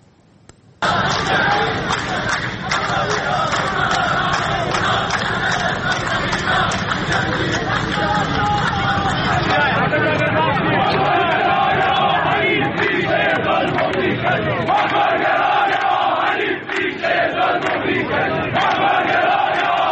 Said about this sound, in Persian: ابتدا ویدئویی داریم از ادامه اعتراض‌های کارگری در چند شهر جنوبی ایران از جمله اهواز و شوش که تمام طول هفته ادامه داشت.